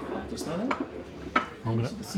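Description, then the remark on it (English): Plates clink and cutlery clatters as food is set down, a few sharp bright knocks over a steady murmur, with a voice briefly audible among the rattling. “There's some food coming.”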